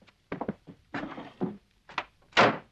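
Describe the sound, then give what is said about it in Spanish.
A door slams shut with a loud bang near the end, as a hearing test for a child seated with his back to the door, preceded by several softer knocks and shuffling thumps. No one speaks. “Siéntelo de espaldas a la puerta. Voy a hacer una prueba.”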